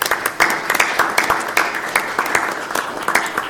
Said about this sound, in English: She's managed to keep up with the demand and up with the complexity, and we owe her a vote of thanks. So maybe a moment of applause.